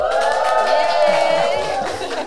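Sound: audience cheering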